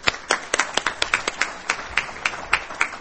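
Audience applause for the first speaker of the day, an agricultural trade economist: sparse, fairly steady hand claps, roughly three or four per second, crisp and moderately loud, with no talking over them for the full three seconds.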